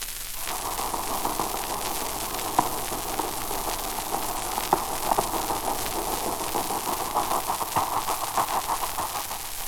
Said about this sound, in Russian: Это торговый пароход с паровыми машинами.